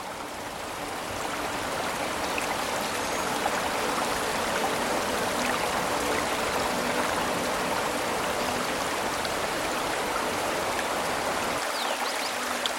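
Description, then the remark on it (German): A steady rush of flowing water from a brook, a broad continuous hiss with faint gurgling and trickling detail, holding an even level throughout with no voices. “Das Rauschen des Baches.”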